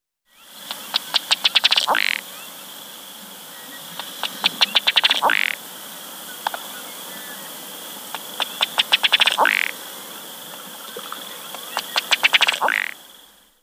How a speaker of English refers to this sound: Ruddy Duck.